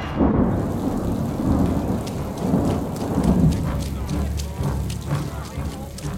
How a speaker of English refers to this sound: We have brought what lights we could, but in this downpour, it's hard to keep the wicks lit.